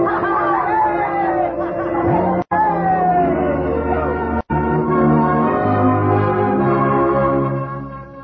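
The bells of the Baptist, Congregationalist and Roman Catholic churches ring out over a loud, excited crowd cheering, shouting and laughing to celebrate the safe return from the first trip to Mars, the mix steady and dense throughout, broken only by two abrupt split-second dropouts.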